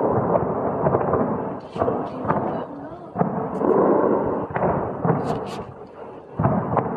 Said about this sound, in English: Explosions have been heard across the Iranian capital, Tehran, as three waves of airstrikes were launched by Israel overnight.